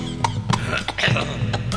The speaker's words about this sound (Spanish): Sigue con esa tos.